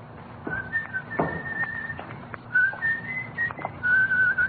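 man whistling a tune

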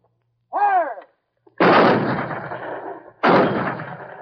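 mortar firing

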